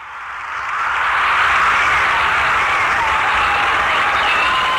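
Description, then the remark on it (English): A large crowd at the Command Performance radio show breaks into loud, sustained applause that swells within the first second and holds steady as a dense wash of clapping, with cheering mixed in and no one speaking. “The crowd loves it.”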